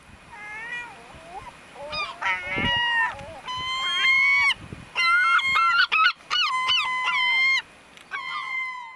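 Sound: gulls calling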